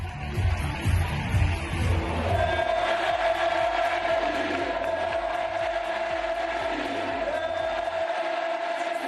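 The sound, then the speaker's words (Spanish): About 10,000 fans in the Benito Villamarín stadium chant "Betis" over and over in a steady, pounding rhythm to welcome Joaquín on his contract renewal, the massed voices loud and roaring with a sustained droning note running through the din. “Bueno, pues el señor Sánchez Rodríguez, hoy en noticia, es un señor que tiene 38 años y que, fíjense, 10.000 tíos en el Benito Villamarín lo han recibido así.”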